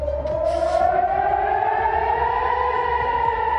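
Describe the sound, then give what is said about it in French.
Air raid warning sirens in Israel wail at night during an Iranian attack, in a long, steady rising tone, loud and sustained with overlapping harmonics, heard alone without any talking. “Les sirènes d'alerte ont retenti cette nuit en Israël, visée pour la première fois de son histoire par une attaque iranienne d'ampleur, opération baptisée Promesse Honnête.”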